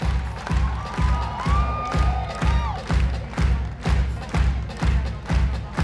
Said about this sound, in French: Il suffit d'écouter, par exemple, les applaudissements et le retour public d'une de ses dernières créations avec des danseurs brésiliens cette fois, et également présentée à Montpellier Danse, Cafig Brasil.